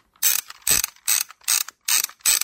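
Film wheel on a disposable camera being turned to wind its pre-loaded film, a series of six crisp ratcheting clicks in a steady rhythm, each burst separated by brief pauses.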